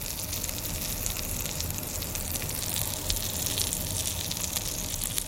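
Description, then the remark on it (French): A grilled cheese sandwich, first pressed down to form a crust, cooks gently in a pan. It sizzles steadily, a continuous hiss with small sharp crackles and pops scattered throughout, holding a constant moderate level with no voices. “Ça crépite ? Oui, ça crépite.”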